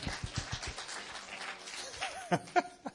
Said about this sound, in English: Oh, come on. Do you applaud? Give yourselves an applause.